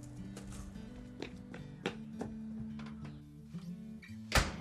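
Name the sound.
door slamming shut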